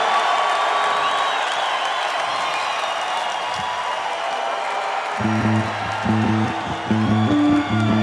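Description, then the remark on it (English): A concert crowd in Cincinnati roars with steady cheering and applause throughout, loud and dense, and partway through low instrument notes start up in short, repeating bursts beneath the noise. “It's been a great, great crowd tonight.”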